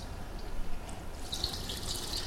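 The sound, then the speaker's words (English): Water pours and splashes steadily over hands in a ritual washing before eating, with a brighter rush of running water in the second half. It is moderately loud, and nobody speaks. “But one of their customs were, of course, you have clean hands, but then, before you eat, you pour water over your hands 3 times.”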